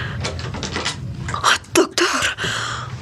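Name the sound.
door opening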